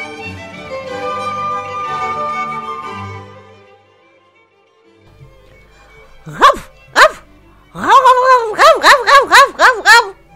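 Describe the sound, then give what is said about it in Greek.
A voice talks briefly, then after a pause a dog named Bazli barks twice, followed by a quick, loud run of about seven sharp, yappy barks. “«Ναι», είπε ο Μπάζλι γαυγίζοντας.”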